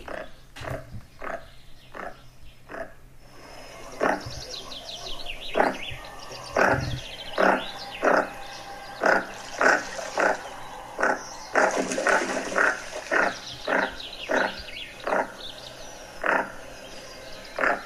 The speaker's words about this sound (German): Hier kommt der Goose Sender, heißt der im Englischen übrigens, der Vogel. Goose Sender.